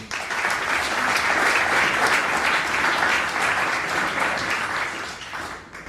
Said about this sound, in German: Und deswegen freue ich mich ganz, ganz herzlich, ihn hier in Frankenberg begrüßen zu können und auch sicherlich einen mega spannenden Vortrag mit einem riesen Applaus heißen wir ihn hier willkommen,